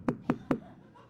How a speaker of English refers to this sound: So you head back to the room, you hear another knock.